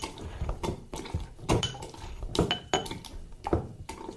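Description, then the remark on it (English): Basil leaves being muddled in a glass to bruise them and release their flavour before limoncello is added, with a series of irregular knocks and clinking taps against the glass mixed with soft wet squelching, repeating roughly every half second with no one talking. “So it's making quite an unattractive squelching sounds, but it's all worth it in the end.”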